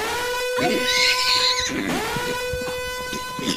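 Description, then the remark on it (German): A short pony alarm musical jingle with sustained, bright tones, and a horse's whinny rising and falling through the middle. It plays loud, with no talking. “Hätten wir eigentlich schon längst einen Pony-Alarm spielen müssen jetzt.”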